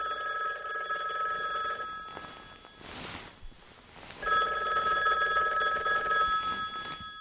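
A telephone rings in the Polish radio drama Rodzinne święta, two long bursts separated by a pause of about two seconds, each ring a bright, trilling, high-pitched tone that sounds loudly with no voices over it.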